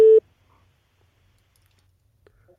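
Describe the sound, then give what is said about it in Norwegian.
A brief, loud burst of a steady telephone ringing tone at the very start, then a near-silent open line with a few faint clicks, as a radio show phones Viking director Eirik Bjørnø at the office. “Vi ringer direktør Eirik Bjørn og hører hvordan denne mandagen er for de ansatte på kontoret i Viking.”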